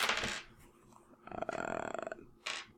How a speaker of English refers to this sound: Did you catch that dice? Did you cheat? No, I didn't cheat. I just put it on the table.